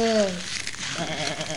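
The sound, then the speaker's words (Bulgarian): A brief human voice imitates a sheep's bleat with a short falling 'baa' at the start, followed by more vocal sounds over a steady background. “А през това време котаракът успял да стигне до средата на гората, където овчар пасял огромно стадо с овце.”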